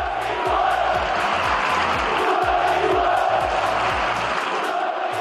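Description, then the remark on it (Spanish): Sevilla fans at the end of a match chant and shout in unison about Betis ahead of the derby at the Villamarín, a dense roar of voices with rhythmic, pulsing bursts and deep low thumps throughout, loud and continuous for the whole stretch. “A grito de SOP, cuatro letras, Betis, cantaban y gritaban para lo que se viene el próximo domingo en el Villamarín, en ese partido entre béticos y sevillistas.”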